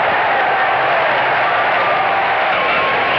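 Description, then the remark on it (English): A baseball stadium crowd roars in a sustained, dense wall of cheering and clapping after Hargrove's game-tying home run into the right field seats with two outs in the ninth, loud and steady throughout with no voices standing out. “Listen to this crowd go crazy.”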